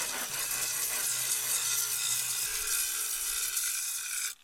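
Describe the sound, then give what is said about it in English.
A steady, harsh abrasive grinding as old clay and glaze are scraped off kiln shelves, a dense high hiss with a low motor-like hum underneath, continuous for several seconds before cutting off. “Meanwhile, the Rogue Potters did some last-minute glazing, and grinding old clay and glaze from the kiln's shelves.”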